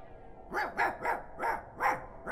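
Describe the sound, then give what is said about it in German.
A German shepherd guard dog barks five times in a quick, regular series, each bark sharp and harmonic, over a faint steady background hum. “Und die ist oft sehr kräftig bewacht. Mit Wächter. Und neuerdings sogar Hunden.”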